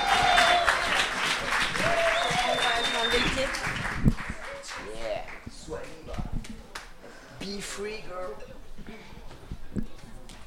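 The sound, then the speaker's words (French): A crowd bursts into loud, sustained applause for a performer representing Lyon Vitry for the first few seconds, then the clapping thins out as a man begins speaking over the fading audience noise. “Un tonnerre d'applaudissements pour elle.”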